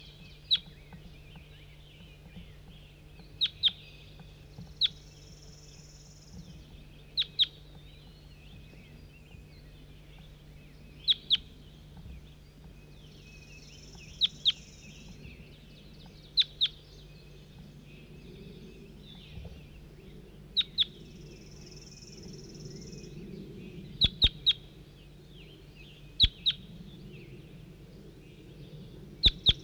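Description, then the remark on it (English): A recorded bird, logged as bird 4-3, repeats sharp, high-pitched calls, often in quick pairs, every second or two, with occasional brief thin whistles between them, over a steady low hum and faint background noise. “Start recording bird 4-3.”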